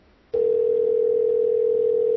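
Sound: telephone ringback tone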